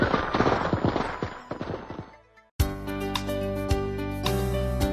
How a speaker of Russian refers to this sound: Дом мы украсили, пора идти взрывать хлопушки.